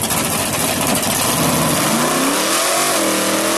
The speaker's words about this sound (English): Oh, they hit the brakes. They hit the front brakes and just light it up. Here comes a funny car. Now they're going to light this. Now they're going to light it up.